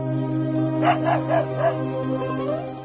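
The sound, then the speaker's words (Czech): A dog gives a quick run of four sharp, fairly high barks, followed by a fainter whine, all over a steady low humming drone. No one speaks. “Vidi, pas!”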